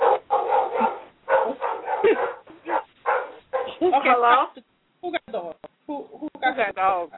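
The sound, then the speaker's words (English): A caller's dogs bark over a phone line into a talk show in a steady string of sharp, loud bursts, broken by high, wavering yips and whines. A voice is heard briefly among the barks, and the sound is thin and muffled like a phone line. “My dogs just don't know when to shut up.”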